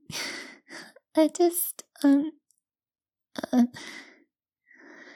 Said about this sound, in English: I'm out of breath. From running up the stairs when I heard my phone ring.